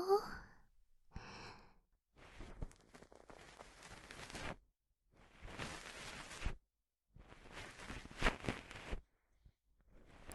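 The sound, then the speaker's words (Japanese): A soft breathy sigh, then three long bursts of scratchy, rustling friction as a cotton swab rubs inside an ear to finish an ear cleaning, separated by brief pauses, with no speech. “あとは仕上げを綿棒でしていきましょう。”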